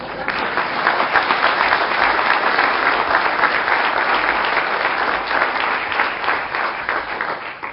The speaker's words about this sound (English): So with that, I will thank you and leave to thunderous applause.